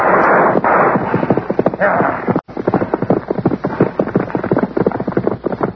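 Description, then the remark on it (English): Horses with riders gallop hard, hooves clip-clopping in a rapid, uneven drumming over a loud, rushing rumble, with a sharp crack midway and occasional bursts of gunfire. “make sure you stay on your horse. Go, Logo. Go on now. Go.”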